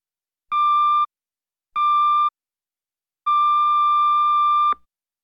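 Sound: answering machine long beep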